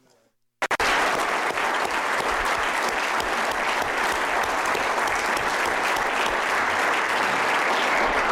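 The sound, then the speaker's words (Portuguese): An audience at a conference bursts into sustained applause after a brief silence, all clapping together, a dense steady wash of many hands that continues loudly to the end. “E devemos bater palmas agora, todos juntos.”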